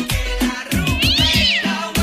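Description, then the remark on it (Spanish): A cat meows loudly, one drawn-out cry that rises and falls, framed by short sharp bursts of noise. No voices are heard. “Por acá me dicen, ¿dónde están las gatitas?”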